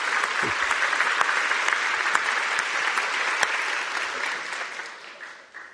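An audience applauds the accompanist, a brother who can play accompaniment for any song, steadily, a dense wash of many hands clapping at an even loudness that tapers off slightly near the end, with no voices speaking.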